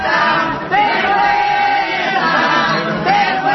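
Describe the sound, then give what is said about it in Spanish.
A loud, dense crowd booing and jeering continuously, with sharp whistles cutting through at intervals over the steady roar of voices: members of an anti-eviction platform in Madrid booing the socialist candidate for Madrid city council at a home, in the morning. “pero nos aseguran desde su equipo de campaña que no fue por estos silbidos, por estos abucheos que atribuyen a un grupo que trata de monopolizar esta lucha, sino porque tenía otro acto en su agenda electoral.”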